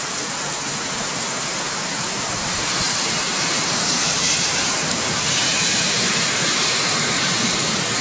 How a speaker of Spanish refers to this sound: El ruido de fondo es también es porque pasaron unos vehículos por la carretera, pero se escucha claramente la intensidad de la lluvia.